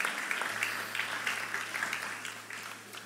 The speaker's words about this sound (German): Genau, schönen Applaus.